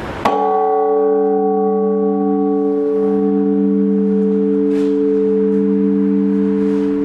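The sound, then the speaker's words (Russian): A single loud strike, the first, of a newly hung church bell rings out, its deep tone humming and slowly fading over several seconds with rich, steady overtones; no one speaks. “Но пока долгожданный первый удар.”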